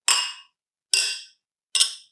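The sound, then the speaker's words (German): Three bright clinks of glasses touching in a toast, evenly spaced about a second apart, each ringing briefly and fading; fairly loud, with no talking. “Das klang relativ schön, sonst klingt das nicht so gut.”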